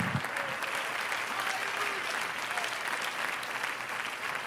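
crowd, audience clapping hands

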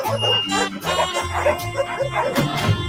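animal, dogs barking

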